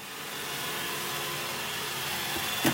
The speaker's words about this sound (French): je marque une pause parce que je ne sais pas si tu m'entends, mais il y a mon robot, mon aspirateur robot qui a décidé tout d'un coup de venir faire le ménage là à côté de moi.